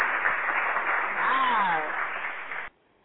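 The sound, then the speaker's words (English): A dense burst of clapping applause fills nearly three seconds, steady and fairly loud, with a voice briefly heard over it before the sound cuts off abruptly. “We definitely got to give you a big round of applause for coming in and showing up to go up.”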